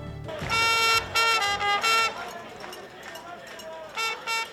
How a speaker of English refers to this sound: A trumpet player at the anti-Israel protest at Fordham University in New York City.